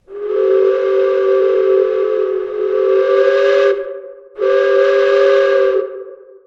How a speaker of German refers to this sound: Dampflokomotiven haben ja diese Dampfpfeife, die man aus Filmen oder von sehr seltenen Fällen einer echten Oldtimerfahrt kennt.